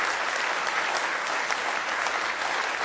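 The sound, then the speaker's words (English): A church audience stands and claps hands steadily in praise one morning, a dense, continuous wash of applause, with no voices standing out. “Let's stand, give him one more good hand clap of praise this morning, if you will.”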